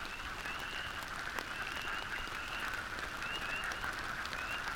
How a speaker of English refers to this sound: I know they breed in this swamp, but where are they? Taking the advice of the chickadees, I decide to exercise a little patience. And sure enough, within just a few minutes, several wood frogs start cackling, and soon there's quite a spirited chorus.